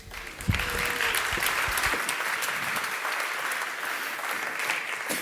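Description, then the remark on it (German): A crowd bursts into sustained applause for a speaker being introduced at a talk, a dense, steady wash of clapping that starts abruptly and holds at an even level for several seconds with no voices over it. “Einen großen herzlichen Applaus bitte.”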